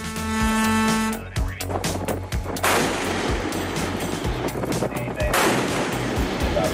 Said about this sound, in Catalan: És el primer cop que la marina dels Estats Units primer dispara i després aborda un vaixell amb bandera iraniana, segons Trump, pretenia saltar-se el bloqueig imposat per la Casa Blanca.